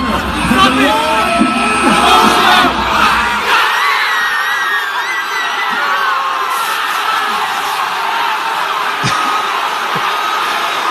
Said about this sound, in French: une vidéo qui a été prise de la foule à l'extérieur qui regardait le match sur des écrans géants. Je te fais entendre un extrait de ce qu'on retrouvait sur Twitter ce matin.